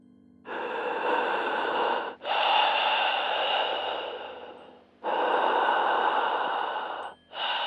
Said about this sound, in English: My mom would pick up the phone when it rang to hear heavy breathing on the line.